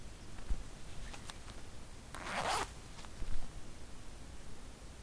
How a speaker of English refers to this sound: Take my belt off. Now the zipper.